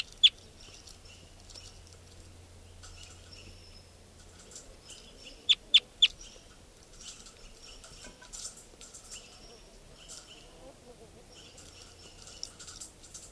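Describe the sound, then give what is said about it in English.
Birds call over a low steady hum as wild birds fly over a recorded bird, number 455: soft, high chirps and chatter run throughout, broken by a few sharp, loud calls, including a quick burst of three in the middle. “This is bird 455 as wild type 2 birds fly over.”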